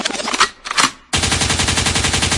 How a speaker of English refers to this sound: It could means rewind, a gunshot means forward.